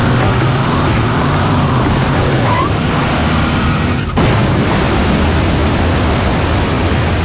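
truck engine revving

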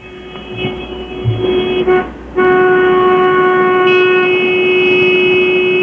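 car horns honking

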